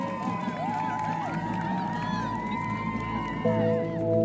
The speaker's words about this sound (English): The crowd erupted in applause.